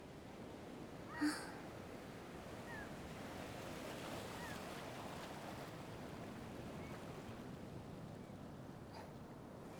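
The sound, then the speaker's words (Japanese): Steady ocean waves wash and rumble continuously at a constant level, with one brief seabird cry early on and no talking. “あとは波の音だけ。”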